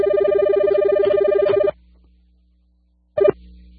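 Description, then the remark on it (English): A telephone rings loudly through a headset, a warbling electronic trill lasting over a second, then silence before a brief second burst of the ring cuts in and stops. “I guess I had the phone turned up here on my headset, sorry.”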